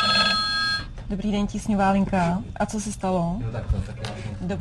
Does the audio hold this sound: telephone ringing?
yes